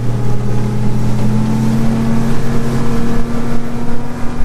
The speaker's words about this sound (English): I've joined the team as they launch a boat from Bing Bong Port near Borroloola.